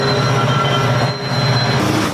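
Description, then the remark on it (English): A train rumbles past a man standing outside recording a video, loud and steady, with a low engine drone, faint metallic wheel squeal and a brief dip in the noise midway. “Why is he outside at all if he's afraid a train's going to drive by?”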